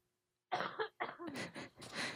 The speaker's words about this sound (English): Excuse me, I have to cough.